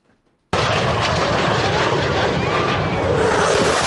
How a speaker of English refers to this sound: Here is Pensacola, Florida, a bunch of beachgoers and a airplane, the Blue Angels, flying over.